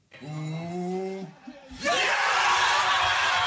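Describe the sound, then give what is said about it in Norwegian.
A group of Leicester football players lets out a loud, sustained shout of celebration as their Premier League title is secured, then erupts into a wall of raucous cheering and yelling that stays loud to the end. “Da utfordrer Tottenham svikta, kunne Leicester sine spillere slippe jubel løs.”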